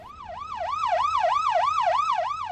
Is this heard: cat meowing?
no